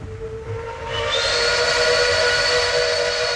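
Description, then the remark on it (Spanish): After a low rumbling hum, a train whistle starts up about a second in and holds as one loud, steady, shrill blast with a breathy hiss until the end. No one speaks. “Al parecer, escuchó el silbato cuando estaba acostado sobre los rieles y creyó que pasaba el tren.”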